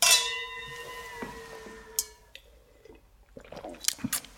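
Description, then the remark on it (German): Glasses clink together in a toast at the start of a book-discussion broadcast, a bright, high ringing tone that slowly fades over about two seconds, followed by a few quiet clicks and soft handling noises. “Dann lass uns doch erstmal anstoßen, bevor wir zum ersten Buch kommen.”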